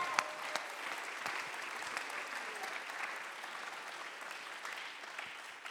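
A large audience claps steadily during a sermon, a dense wash of overlapping hand claps at an even, sustained level with no voices standing out.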